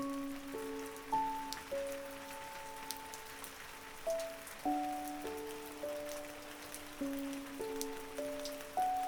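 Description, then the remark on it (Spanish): Steady rain patters throughout, with scattered drops standing out against a soft hiss, while a gentle, slow melody of sustained notes plays over it. No one speaks. “Está lloviendo. Me encanta el sonido de la lluvia.”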